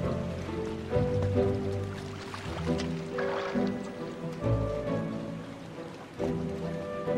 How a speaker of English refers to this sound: He doffs his gloves and raises the submersible on a wire, then lowers it into the water.